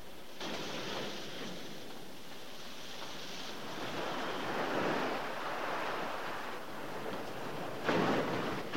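Ocean waves break on a shore in a steady, rushing roar that swells and recedes, with a sharper crash of surf near the end. No voices are heard.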